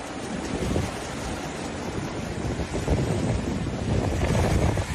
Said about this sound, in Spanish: Es el sonido del mar pegando contra las rocas en la Costa de Amorte.